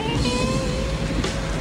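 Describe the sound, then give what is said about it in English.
A dark car's engine rumbles, steady and fairly loud, with a faint whine over the low drone as the car rolls to a stop and parks on a curb in Washington at night. “A dark car parks on a curb.”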